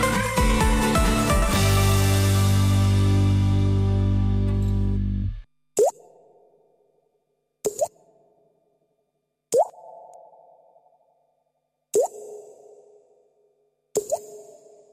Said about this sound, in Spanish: Este sonido nos acerca, digo este de la lluvia, ¿no? Con ese eco nos acerca hasta un lugar en el casco viejo de Vitoria-Gasteiz. Es un edificio que en su día llegó a albergar hasta 6 millones de litros de agua y que se vació en los años 80 del pasado